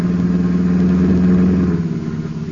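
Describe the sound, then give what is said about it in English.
A car approaching, its engine humming with a steady, low droning tone and a slight rhythmic throb, loud throughout, easing off a little toward the end. No one speaks. “Hold it, there's a car coming.”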